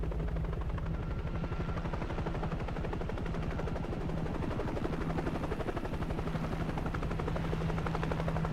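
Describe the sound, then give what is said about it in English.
A helicopter hovers over the sea during a rescue as a crew member at its door puts on a dry suit and a rope is lowered. Its rotor blades produce a fast, steady thudding chop over a deep engine roar that stays loud and constant throughout, with no voices. “And then the guy at the door of the helicopter, he moved back and he started to put on his dry suit.”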